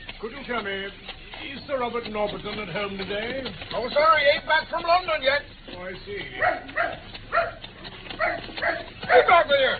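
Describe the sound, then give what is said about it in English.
A dog let loose from its lead barks and yips excitedly in quick, irregular bursts, fairly loud, with whining pitch slides between the barks. “And I think I shall also accidentally loose my hold of this good dog's lead.”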